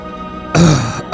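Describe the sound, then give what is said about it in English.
A loud cough bursts out, a longer harsh one followed by a short second cough, over faint background music. “Excuse me for coughing.”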